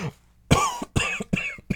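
A run of harsh coughs, about four or five in quick uneven succession, each a sharp loud burst with a raspy tail, and no talking.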